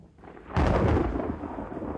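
A sudden, loud thunderclap breaks out after a quiet moment, then rolls into a deep, sustained rumble that slowly fades. No voices are present.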